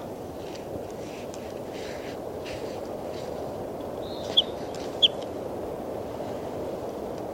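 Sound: bird calling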